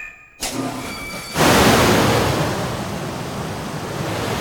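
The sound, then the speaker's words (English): A helicopter training box, used to simulate a helicopter ditching, drops into water with a loud splash, followed by several seconds of steady rushing, churning water noise. No one speaks. “It's a bit of a drop, so expect a splash.”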